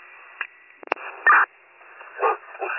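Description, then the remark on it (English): A few short, sharp barks from a dog in a 1999 Honda Civic on the boulevard near the train trestle by DeCola's crackle through a tinny, radio-like channel. They are spaced unevenly with static hiss between them and sound muffled. “Alright, I'll be out with a Honda on Boulevard with a dog in it.”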